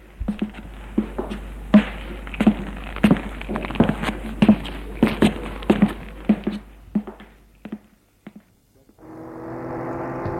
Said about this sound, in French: Prend le corps, le met sous les épaules. descend les escaliers.